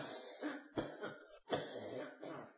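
A preacher coughs mid-sermon: a run of harsh coughs, about four bursts in quick succession with short gaps, fairly rough, with no talking in between.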